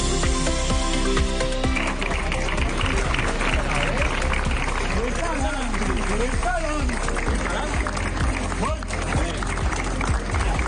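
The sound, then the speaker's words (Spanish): A large crowd claps steadily and continuously, a dense wash of applause mixed with murmuring voices and shouts, outdoors, for the Gran Poder and Esperanza Palm Sunday processions in Alicante as they hurry through rain to shelter in the co-cathedral of San Nicolás. “Estos que escucháis son los aplausos al gran poder y a la esperanza que tuvieron que abandonar acelerando el paso, la carrera oficial para refugiarse de la lluvia en la concatedral de San Nicolás.”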